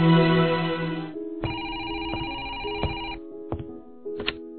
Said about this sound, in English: At Larissa's penthouse, Andrew is about to leave when the phone rings.